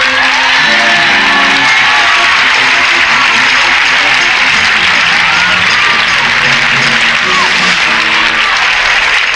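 A large crowd claps steadily and loudly, with scattered whoops and shouts rising through the dense applause for the full length, no single voice standing out.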